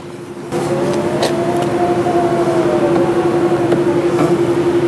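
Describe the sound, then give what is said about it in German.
A steady Tesla Model X electric car hum with a constant tonal whine and a faint rising and falling pitch sweep, moderately loud, with no talking. “Genau, es ist ein Model X.”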